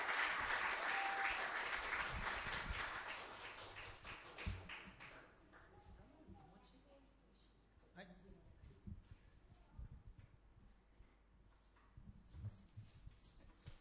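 A crowd applauds with dense, loud clapping for about five seconds, then it thins out into scattered claps and faint taps and shuffling sounds that continue quietly.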